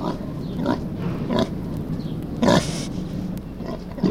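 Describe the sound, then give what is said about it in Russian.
A pig grunts several times in short, rough bursts at irregular intervals, fairly loud over a steady low rumble of background noise. “Говорит: здравствуй, Чуша, здравствуй.”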